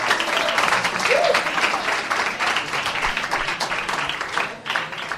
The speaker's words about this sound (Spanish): Redoble de tambores. Un fuerte aplauso para el grande, el único, el inigualable,